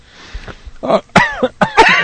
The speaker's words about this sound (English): Now I'm coughing.